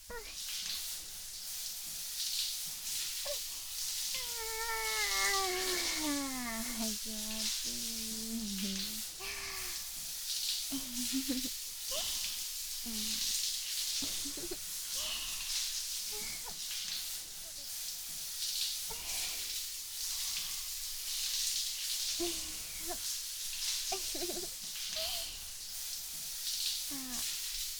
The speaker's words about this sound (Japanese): 私にもシャワーかけて。